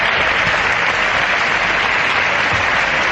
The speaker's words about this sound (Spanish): Mariano Rajoy entraba en el hemiciclo apenas segundos después de que acabara la última intervención del portavoz popular y lo hacía arropado por los intensos aplausos de los diputados de su bancada.